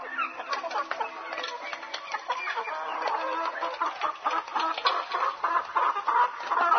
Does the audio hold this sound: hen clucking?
yes